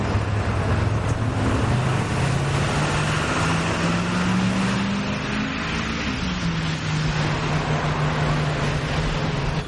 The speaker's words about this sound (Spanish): Una ambulancia pasa a un peaje controlado por militares.